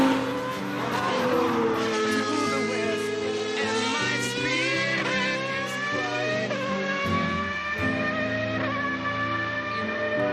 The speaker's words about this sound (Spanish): Esto es lo que suena de fondo, es poesía en movimiento. Estos son los motores V12. Qué bonitos sonidos, ¿no? Uf, son maravillosos.